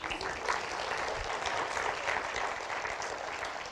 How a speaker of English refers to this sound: They don't clap for me